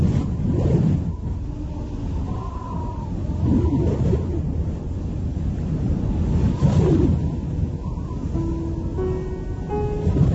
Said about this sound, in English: Winter temperatures drop to minus 50 degrees. Winds of up to 100 kilometers per hour hurl ice and snow about.